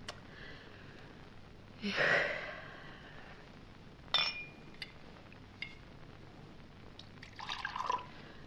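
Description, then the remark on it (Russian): Liquid pours briefly from a bottle into a glass, with sharp glassy clinks in between and a second short gurgling pour near the end, all quiet against a soft hiss. “А, не-не-не-не, уж если мириться, то налейте-ка мне тоже вот из этой бутылки.”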